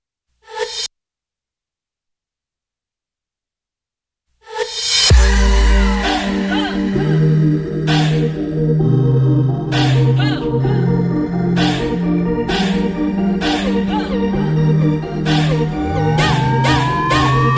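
A pop song plays from a recording: after a short burst and a few seconds of silence, it kicks in loudly with a steady thumping beat, a pulsing bass line and bright layered synths.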